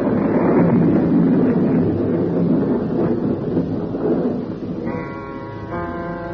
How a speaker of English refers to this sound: Wind came. The storm was beginning. Already I knew it would be raining in the estuary.